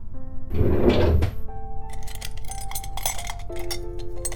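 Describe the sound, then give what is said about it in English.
A drawer holding bandages scrapes open with a short rough slide, followed by a few light clinks and knocks of items being handled and the drawer shutting, with no voices. “Well, why don't you get some bandages from that drawer over there?”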